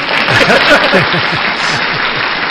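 A dense, steady wash of crowd applause with indistinct cheering voices mixed in, holding at an even loudness for a couple of seconds.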